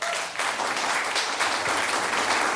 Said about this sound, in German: Applaus